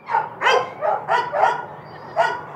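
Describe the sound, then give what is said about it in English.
Several adoptable dogs in outdoor shelter kennels with concrete floors bark at a stranger holding a microphone, led by Bellamy, a 2-year-old brindle mix on top of his doghouse; six or so sharp, overlapping barks in quick irregular bursts, loud, with a steady low hum underneath and no talking. “They see me, a stranger with a fuzzy-looking microphone, and they start doing what dogs do best.”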